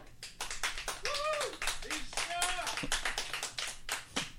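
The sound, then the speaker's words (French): A stand-up comedy audience applauds steadily with dense, continuous clapping to show who loves cats, and a few voices whoop or call out over it partway through. “Par applaudissement, qui aime les chats?”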